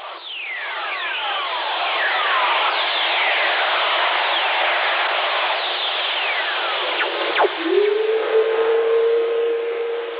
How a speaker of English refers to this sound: When lightning strikes, it releases electromagnetic radiation that can be picked up by radio operators, who call them earth whistlers.